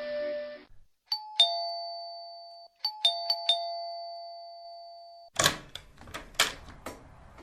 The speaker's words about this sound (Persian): هیچ کاری برای انجام دادن نبود تا اینکه زنگ در و صدا در آمد.